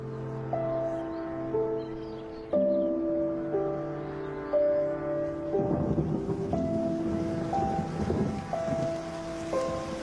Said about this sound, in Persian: بارون می اومد. مثل سمفونی بود که فقط برای من ساخته شده بود. صدای بارون،